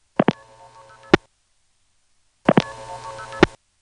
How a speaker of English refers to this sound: It's actually sending key pulse, then a 1, and that's really all you need for this particular operation in most phone companies. But then it went on to send a 3, a 0, and an ST2P tone.